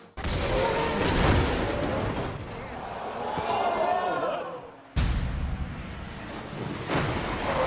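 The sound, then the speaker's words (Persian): A loud, continuous mechanical roar and grinding scrape, with a few sharp knocks and an abrupt cut midway, as a Formula 1 car crashes and skids at the Belgian Grand Prix, round 13 of the championship, in a crash involving Charles Leclerc, with a car flying for a few seconds, and faint crowd noise behind. “ماشین چند ثانیه ای پرواز کرد.”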